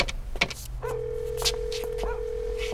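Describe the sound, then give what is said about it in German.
A number is dialed on a payphone in a telephone booth: a few sharp clicks and button presses over a steady low hum, then a sustained electronic tone that holds on to the end. “Kurz darauf standen sie wieder in der Telefonzelle und Justus wählte dieselbe Nummer.”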